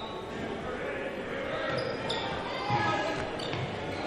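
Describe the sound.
A basketball is slapped on a court during a Longhorns game, a sharp smack amid the steady roar of an arena crowd, with indistinct voices and squeaks in the background.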